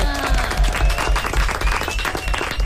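loud applause

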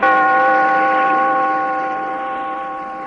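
bell tolling

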